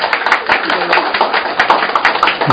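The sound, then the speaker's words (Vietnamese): A crowd applauds steadily for a few seconds, a dense, fairly loud patter of many hands clapping at once with a murmur of voices mixed in. “Một tràng pháo tay hơn đâu bà.”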